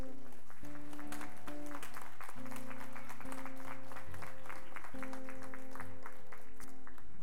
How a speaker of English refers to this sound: I want to, before we pray for them, can we just say thank you to all of them? Applause or...